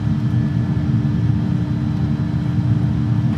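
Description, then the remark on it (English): A loud, steady low engine roar with a constant rumbling drone and a faint tonal hum, holding at an even level throughout: aircraft jet engines in reverse thrust on a runway after touchdown, with light braking, slowing from about 120 to 90 miles an hour. “And I'll give you a bit of reverse thrust.”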